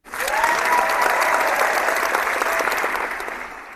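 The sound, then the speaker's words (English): A crowd cheers and applauds loudly, dense clapping filling the whole stretch with a few rising whistles or shouts, holding steady before easing off slightly at the end. “So let's fire up the crowd and let's talk some footy.”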